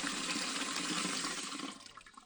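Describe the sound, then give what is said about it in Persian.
A steady rush of water pours from a tap, loud, for a couple of seconds before tapering off as the flow is shut. “پس لازم است در حین شستشوی دستا شیر آب را ببندیم.”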